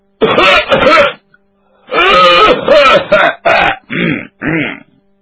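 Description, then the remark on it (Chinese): A voice loudly imitates a man's habitual booming throat-clearing cough, given before entering a room to announce his arrival at a noodle-making workshop: a string of about six resonant, gravelly bursts that start long and strong and grow shorter and softer, alone with no other sounds. “他有个老习惯，进他们家也好，进粉房也好，未曾进屋先咳嗽，这叫亮嗓。他这声音还挺洪亮。”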